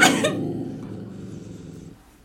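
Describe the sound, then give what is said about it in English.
A dog growls low and steadily at a person, opening with a short harsh burst and then a throaty rumble that holds for about two seconds before trailing off, with no talking. “That's why he growling at me.”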